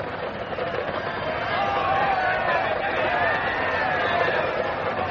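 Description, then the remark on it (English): A large, hostile English crowd near Oxford calls and shouts together for Sir Walter rather than for the king, in a dense, continuous roar of overlapping voices, growing louder after the first second and holding steady throughout. “It's not their king they call for, Cecil.”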